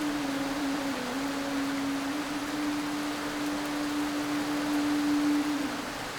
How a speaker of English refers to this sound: It gently begins to rain. The sound of the rain drums on the leaves overhead.